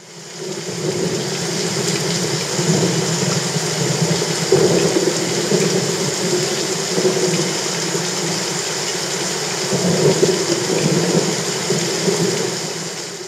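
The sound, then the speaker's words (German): Heavy rain pours down steadily in a dense, continuous hiss, with a deep low rumble swelling now and then beneath it. No voices, just the constant downpour. “Es regnet heftig.”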